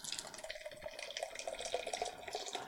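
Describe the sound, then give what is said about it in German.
Guinness beer from a can glugs and splashes steadily into a glass for a few seconds, a continuous bubbly pour with a faint ringing tone and no voices. “Glugger das so ein bisschen raus.”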